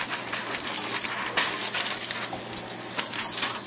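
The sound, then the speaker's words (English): A hand crank turns steadily, winding a paper scroll all the way back with a continuous rustle and dry mechanical clatter, plus occasional small squeaks, lasting a few seconds with no talking. “And before we leave, let's scroll all the way back. This thing needs a different kind of crank on it.”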